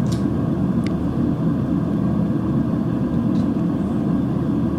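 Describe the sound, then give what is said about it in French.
Steady, loud low-frequency drone of an airplane cabin in flight as the plane changes altitude, a constant engine rumble and airflow roar filling the space, with a couple of faint brief clicks on top. “Oulala là là, on change d'altitude. Il y a eu un petit trou d'air ou je sais pas quoi là.”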